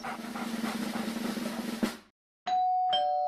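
household object, doorbell ding-dong chime

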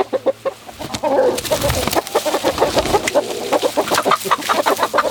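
bird, chickens clucking

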